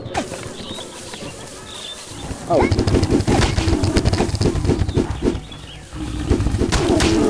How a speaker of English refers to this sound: Two things there. You heard a rhino, which was that galloping thing that sounded like a galloping horse.